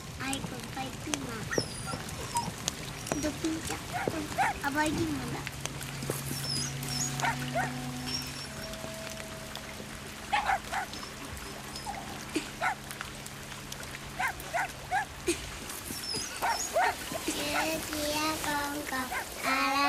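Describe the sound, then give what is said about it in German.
A small fox-like dog, Poppu, whimpers eagerly while rice balls are roasted by the fire, with repeated high, thin whines and short yelps that grow busier toward the end, over low steady background hum and scattered clatter. “Zusammen mit ihrem fuchsähnlichen Hündchen Poppu sitzen sie am Feuer und rösten Reisbällchen, von denen sie ein wenig für die Götter opfern, bevor sie selbst essen, was Poppu kaum erwarten kann.”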